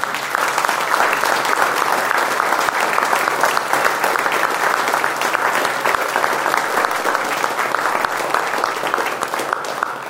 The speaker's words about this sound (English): Yeah. I think he deserves a good hand clap. I do too.